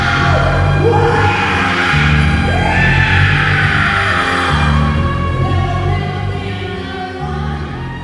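Three voices scream and yell together in a loud, continuous wail, layered over a steady, droning low musical backing that runs throughout.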